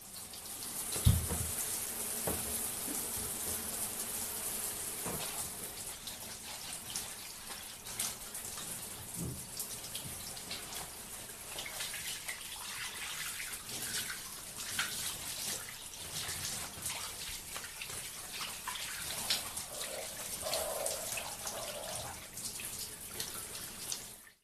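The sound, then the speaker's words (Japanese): A shower runs steadily for the whole stretch, rinsing hands and feet: a broad hiss of spraying water with shifting splashes and patters as it hits skin and floor, continuous, with no voices. “手足を流しますので、ちょっとシャワーを。”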